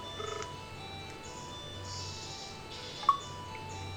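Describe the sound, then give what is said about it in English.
A few rapid, faint phone dialing beeps as a home landline number is dialed from a phone give way to a quiet, steady electronic line tone, broken once by a sharp click near the end. No one speaks. “Okay, I'm now dialing my home number, and rather than answering it, I'm actually going to hang up.”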